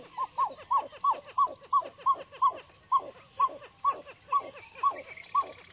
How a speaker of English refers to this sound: The call of this water bird, the pied-billed grebe, is unusual, isn't it?